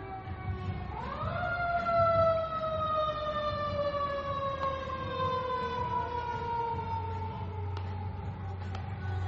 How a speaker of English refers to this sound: Fire truck down the down Monument Avenue.